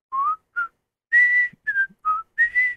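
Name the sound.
whistled TV theme tune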